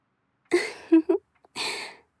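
A big, drawn-out yawn: a breathy inhale rising into a couple of short voiced groans, then a long airy exhale trailing off, with no talking.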